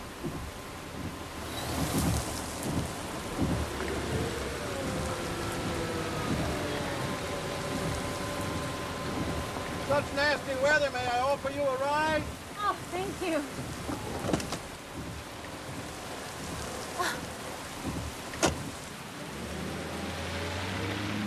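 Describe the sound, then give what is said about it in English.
Heavy rain pours down steadily, a dense continuous hiss with occasional low rumbles and a brief tonal squeal partway through. “Just leave her standing in the rain?”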